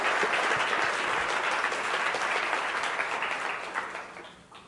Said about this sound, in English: Isn't that great? Isn't that awesome? I mean, that's something to be thankful about. Yeah, you can clap about that. I like that.